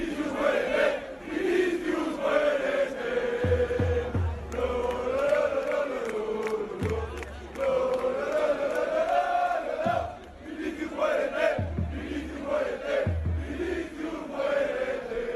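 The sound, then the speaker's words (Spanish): A large football stadium crowd chants insults against Vinicius in unison before and during the match, a loud, sustained, rhythmic mass of voices rising and falling in repeated phrases, punctuated by heavy low thumps every few seconds. “Este grito es antes del partido, pero se escuchó durante el choque.”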